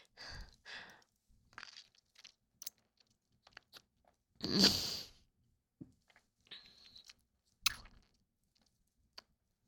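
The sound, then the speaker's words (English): Wet mouth noises of sipping and slurping, a few short smacks and gulps around one longer, louder slurp midway, with a thin whistly suck near the end and no talking. “I'm gonna have a sip.”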